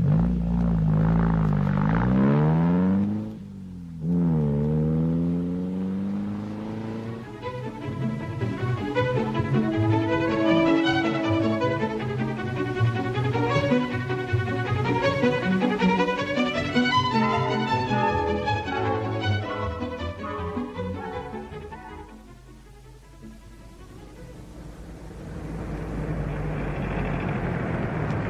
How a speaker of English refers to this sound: Okay, sir. I'll turn the car around. It'll be over on the other side.